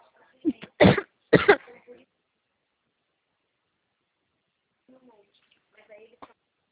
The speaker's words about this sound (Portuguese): Sim, ai, me deu uma crise de tosse aqui.